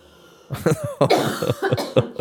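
coughing fit

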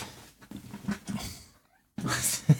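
cat meowing

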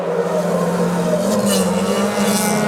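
racing car engines roaring

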